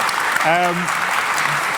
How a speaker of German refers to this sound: Also, so, einmal wieder mal Applaus für C3Vox, ja. Und generell.